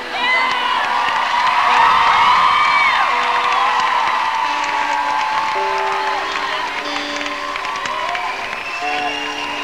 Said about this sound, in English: So when we leave the stage, you clap, clap, clap, clap, clap, and we'll come back.